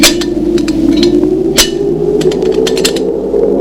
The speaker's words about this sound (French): Au bout d'un moment, le monstre s'arrête. Bruit de ferraille, de grincement.